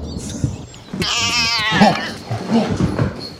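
A calico cat lets out a loud, drawn-out caterwauling yowl, followed by a few shorter, rougher meows, with faint background noise throughout.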